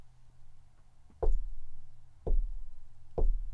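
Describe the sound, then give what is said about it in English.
Three heavy, hollow knocks on a front door, evenly spaced about a second apart, each with a deep booming thud and short resonant tail, loud with no voices. “What's that knocking? Do you hear it?”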